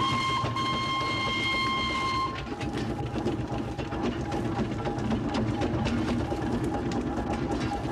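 A steeplejack's steam engine runs loud, a sustained whistle-like tone sounding for the first couple of seconds before giving way to a steady, rhythmic chuffing rumble with no voices.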